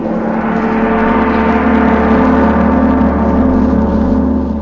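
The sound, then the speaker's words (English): A big brass gong rings out with a loud, shimmering metallic roar, its dense layered overtones sustaining steadily for several seconds without fading. No voices are heard. “That, my friends, was a big brass gong.”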